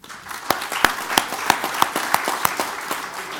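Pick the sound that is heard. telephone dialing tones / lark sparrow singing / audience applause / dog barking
audience applause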